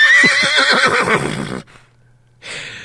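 horse neighing

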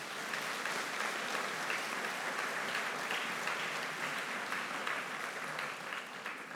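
audience round of applause

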